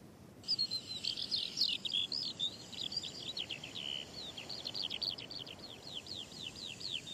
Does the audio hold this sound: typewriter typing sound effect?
no